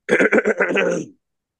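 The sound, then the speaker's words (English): A loud throat clearing by one person, a few quick guttural pulses running into a drawn-out rasp, lasting about a second and then stopping into silence. “Clear your throat.”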